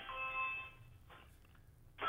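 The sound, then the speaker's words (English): A Ring smart video doorbell chime rings out with bright, steady sustained tones, fades into a quieter tail, then a second chime burst begins at the end. “It was my ring doorbell kind of going off.”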